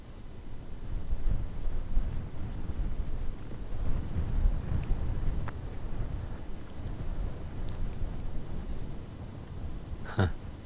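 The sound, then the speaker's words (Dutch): Cutting, icy cold wind blows steadily, a continuous low roar buffeting the microphone with rumbling gusts for the whole stretch, with no voices. “Hier waait het. Echt. Een snijdende, ijskoude wind.”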